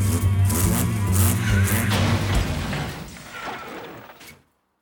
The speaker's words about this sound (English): And when the license man scuttled back to his van and revved the engine reversed...